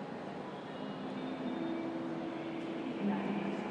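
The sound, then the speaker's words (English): A train pulls into platform 6 of a station with a steady low rumble and a thin, sustained whine of motors or brakes, growing slightly louder near the end. “No announcement of the train yet, but it's due very, very shortly. There's something coming in now, but it could be, of course, on one of the other platforms.”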